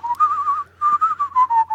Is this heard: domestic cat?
no